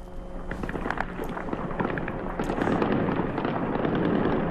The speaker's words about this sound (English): The sound of sustained gunfire can also be heard in one of the posts, seemingly trying to shoot a drone down.